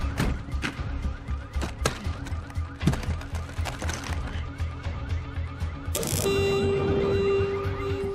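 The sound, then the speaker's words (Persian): A car's anti-theft alarm blares amid clattering and background noise as someone tampers with the car to start it, shifting partway through into a loud, steady electronic tone that holds to the end. “دوزگیرش فعال شده، اینطوری کار نمیکنه.”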